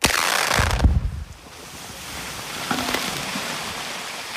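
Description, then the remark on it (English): A Brecon explosive blast in drilled holes in a coastal bluff by a highway on May 7th, filmed from just across the two-lane highway, bursts out with a deep, rumbling roar lasting about a second, then dies away into steady wind-like noise with a faint, brief tone afterward. “That's from a video taken by Brecon Vice President Louis Rochelot during a May 7th blast.”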